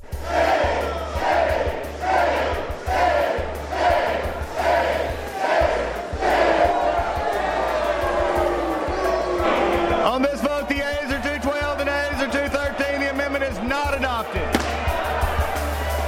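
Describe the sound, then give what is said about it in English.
A crowd of lawmakers on the floor of the House of Representatives booing and hissing over an amendment that would have removed an anti-discrimination provision protecting LGBT people, starting in loud rhythmic surges, then swelling into a sustained, dense din of many jeering voices. “The booze and hissing comes from lawmakers who weren't happy about an amendment that would have removed an anti-discrimination provision that was intended to protect members of the LGBT”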